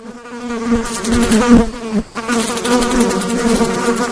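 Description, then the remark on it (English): Flies buzz loudly, a steady droning hum with wavering pitch that briefly drops out around the middle before resuming, with no voices present. “That is indeed the sound of flies.”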